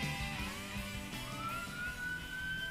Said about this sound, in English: And that's a police siren behind me.